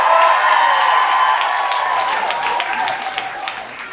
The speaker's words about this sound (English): All right, could I get a round of applause if you're more of a dog person?